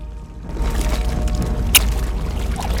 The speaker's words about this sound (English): stopping when water gushes from a hole in the earth wall.